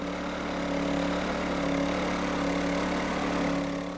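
A generator runs steadily, giving off a continuous low droning hum with layered tonal whine, holding an even, fairly loud level throughout with no voices.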